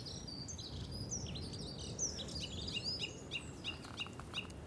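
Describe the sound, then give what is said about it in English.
Chaffinch calls carrying across a dip in the ground: bright, high chirps and short trills repeating in quick, overlapping bursts, with a steady low rumble of background noise underneath and no voices. “It feels to me like the bird calls are louder here than the ones back home where I live, in a slightly quieter, more rural setting.”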